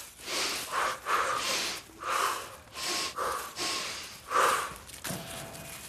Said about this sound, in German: 9-mal linker Fuß, 9-mal rechter Fuß. Symmetrisch. Und doch ungerade 18. Fürs Atmen während des Gehens eine Herausforderung.